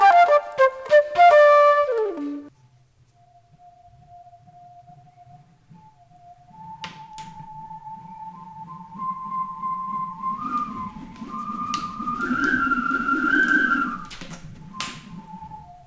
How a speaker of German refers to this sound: Was ihr eben gehört habt, war nichts weiter als ein Verbindungsschlauch von der Tretpumpe zur Luftmatratze.